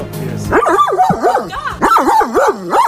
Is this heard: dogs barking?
yes